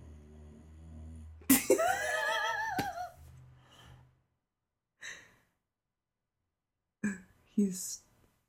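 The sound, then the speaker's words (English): A pet snores loudly while lying on a person's lap: one long, rumbling, groaning snore, then quieter pauses broken by a few short, breathy snorts. “This is the loudest he's ever snoring.”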